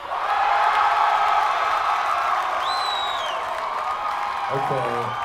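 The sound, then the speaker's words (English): An audience cheers and applauds to vote for the option "buzzing" in one loud, steady roar for several seconds, with a rising whistle cutting through partway. A voice starts talking as the noise continues at the end. “Okay, so right now I need to hear it for buzzing.”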